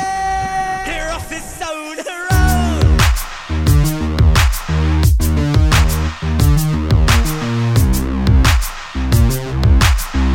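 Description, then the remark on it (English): After a brief tonal, sustained intro, a loud, steady drum beat kicks in with punchy low kicks and sharp snare hits repeating in a driving rhythm over a bass-heavy music backing. “Let me hear a drum!”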